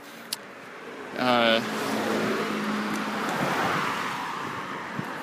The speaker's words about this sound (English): It's cars.